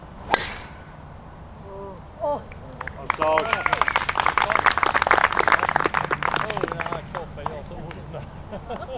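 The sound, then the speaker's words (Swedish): A single sharp crack of a golf ball struck for a long shot at a golf event in an east wind, followed a couple of seconds later by a swelling murmur from the watching crowd of many voices mixed with scattered clapping that carries on to the end. “så går det ett sus genom publiken när han får iväg ett långt slag.”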